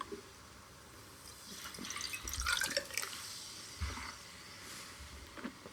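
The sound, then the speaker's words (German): Water splashes and trickles in short, irregular bursts as a drinking glass is rinsed out, with faint clinks and drips, no talking. “Oh, ich muss auch mal mein Gläsel ausspülen.”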